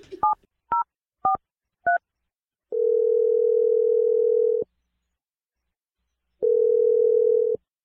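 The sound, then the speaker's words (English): Four quick two-tone keypad beeps as a sister's phone number is dialed for an Awkward Tuesday phone call, followed by two long, steady ringing tones with a pause between them, clear with no voices. “I'm gonna dial your sister's phone number right now.”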